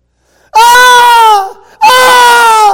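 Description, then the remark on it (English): Two loud, sustained wailing screams, each lasting about a second with a brief gap between them; the high, strained cries hold steady and sag slightly in pitch as the first one ends. “And as it rolls on, all of a sudden we hear screams.”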